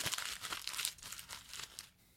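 Paper being crumpled up close by, a quick flurry of dry crackling and crinkling bursts that gradually softens and thins out over about two seconds, with no voices.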